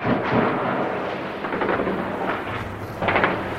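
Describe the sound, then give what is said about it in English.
Gunfire in Jenin echoes in repeated rumbling bursts over a constant noisy background, with louder volleys standing out near the start and end, and no voices. The intense bursts have gone on for about an hour as the Israeli army moves into Jenin. “There have been intense bursts of gunfire here now for about an hour.”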